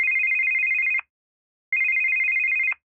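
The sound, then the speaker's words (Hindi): A telephone rings twice at about 9 at night in a steady electronic trill, each ring lasting about a second with a short pause between, loud with no voices. “कल रात 9 बजे के करीब हम लोग खाना खाकर उठे ही थे कि फोन की घंटी बजी।”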